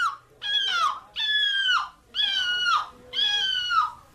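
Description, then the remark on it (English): People in a seagull-impression competition imitate seagull calls: four loud, harmonic squawks in a steady rhythm, each lasting under a second and dropping in pitch at the end, with brief gaps between them. “So I turn these way down so they're not too annoying, but these are people making this noise. How crazy is that? They sound just like seagulls.”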